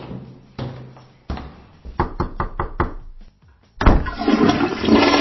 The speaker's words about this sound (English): You don't get many records, do you? Got a toilet flush in the middle.